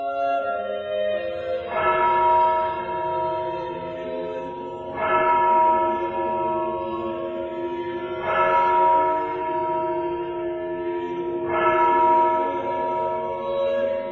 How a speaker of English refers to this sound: Maria woke up to the sound of the church bells from the nearby parish of Santa Maria